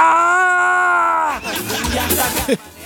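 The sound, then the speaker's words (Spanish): A voice imitates a man's scream of pain when a seat snapped back with a half-metallic whip and hit him while travelling on a hot February day: one loud, sustained, strained cry held for over a second, then it breaks off into murmured talk and noise. “tiene como un sonido medio metálico que hacía, y un caballero pega, larga un grito así.”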